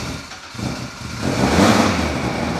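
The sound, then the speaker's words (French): A rally car engine revs up loudly at the start of a rally run, the roar rising sharply after a brief dip and then holding at a high, strained pitch as it accelerates. “Nous sommes dans la voiture de Mathieu Wittenbach, pilote de rallye.”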